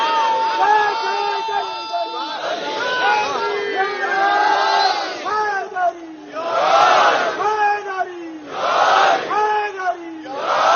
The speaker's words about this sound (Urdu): ناد علی محمد, بلند آواز سے پکارو علی کو. آج پتا چلا کہ یہ نعرہ حیدری بھی سنت رسول ہے.